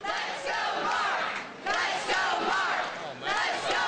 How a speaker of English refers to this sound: Supporters cheering him again, Mark Sanford winning in the first congressional district in the very unaverage city of Charleston, South Carolina.